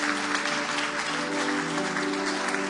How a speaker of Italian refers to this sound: Facciamo un applauso a Gesù.